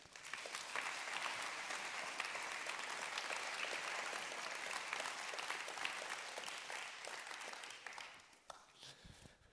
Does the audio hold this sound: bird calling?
no